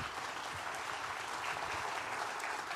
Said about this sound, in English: So thank you so much for making an impact on our kids' life and for giving up your weekend for our kids to have fun and to learn more about Jesus. A round of applause for our folks.